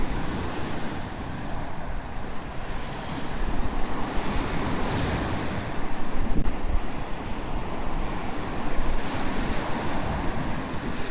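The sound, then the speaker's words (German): Strong wind roars steadily outdoors at the coast and picks up further, with surf rushing underneath and gusts buffeting the microphone in loud swells; no one speaks. “Boah, jetzt nimmt der Wind aber nochmal zu, ne?”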